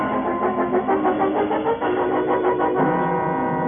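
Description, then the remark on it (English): The engine of a car parked outside turns over and runs loud, a dense mechanical rumble with a steady pulsing throb and a slight shift in tone near the end. No one speaks. “In the car, Cleo. It's parked outside.”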